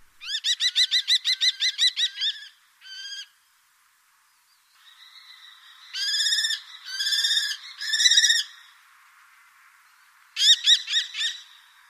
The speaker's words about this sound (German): Kennen Sie den Ruf des Falken?